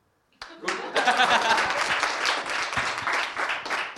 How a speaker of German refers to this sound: Okay, und weil wir da gerade dran sind, das mit dem Applaus so ein bisschen zu üben